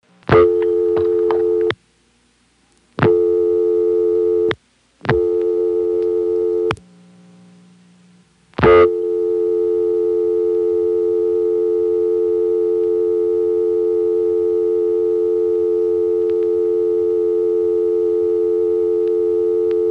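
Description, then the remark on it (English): A Stromberg ESC telephone exchange gives dial tone repeatedly: a steady dial tone switches on and off several times with sharp clicks and short silences between, then comes on and holds continuously until it times out. No voices are heard. “I'll get dial tone a few times, and then let it time out.”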